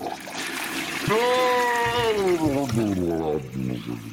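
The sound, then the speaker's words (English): A person vocally imitates a toilet flushing, a loud gurgling whoosh that slides downward in pitch over a few seconds amid watery hissing noise. “I'm going to flush you down the fucking toilet with my fucking ectoplasm here.”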